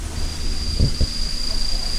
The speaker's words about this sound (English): You might have noticed the sounds. Here we have phantasmal poison frogs. They're not poisonous in captivity. They're the ones you can hear, like the kind of trill sound.